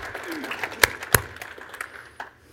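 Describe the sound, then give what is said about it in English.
Scattered handclaps from a church audience, with two sharp, loud claps standing out among softer, uneven claps and a faint murmur of voices. “Either everybody claps or nobody claps. We clapping on this one?”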